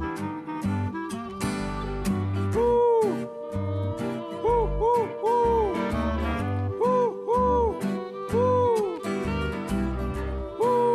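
Owl-like hoots, gliding up and down in short pairs and runs, repeat over an upbeat band with steady drums and bass; the hoots sound sung or played as part of the music.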